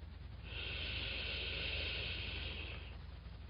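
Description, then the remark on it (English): A slow, deep breath drawn in through the nose for a count of three during box breathing practice, a steady airy hiss lasting a few seconds, clear with no talking. “Inhale for a count of three.”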